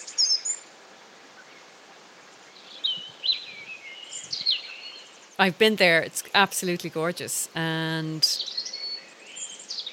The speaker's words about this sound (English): the bird song is just beautiful from the top of this lovely hill. And again, Germany, quite different, quite unique in the sounds there than our own bird songs.